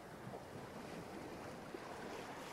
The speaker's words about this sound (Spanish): Vas entrando y las olas suaves van rompiendo contra tus rodillas, contra tu abdomen.